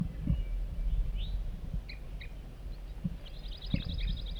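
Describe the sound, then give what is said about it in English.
A bird gives short, clipped tooping calls near a net site, a few scattered notes and then a quick repeated run near the end, fairly faint and set against low rumbling background noise and occasional thumps. “Tooping by 4-3.”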